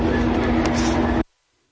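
A loud, steady rumble and roar of a train passing at a train station in California, with a low hum, cutting off abruptly after about a second.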